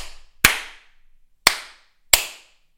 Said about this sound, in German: Und im ersten Moment dachte ich mir, okay, sie klatschen einfach ist als schon als Applaus für unsere schöne neue Wohnung. Aber... natürlich wusste ich es besser und ich dachte mir, okay, sie klatschen bestimmt, um diesen Hund zurechtzuweisen,